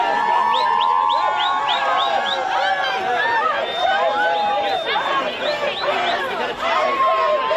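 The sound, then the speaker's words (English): An outdoor crowd of Amy Coney Barrett's supporters outside the Supreme Court of the United States in the evening after her confirmation cheers and chants "ACB", a loud, steady mass of overlapping voices with rising shouts and whoops throughout, no single speaker standing out. “Backers cheering and chanting ACB for Barrett.”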